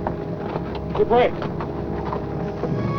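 Horses move about with scattered hooves clopping as a tribe mounts up to ride away under a dark, turbulent sky, against a steady, windy outdoor rumble; a short neigh-like call rises briefly in the middle.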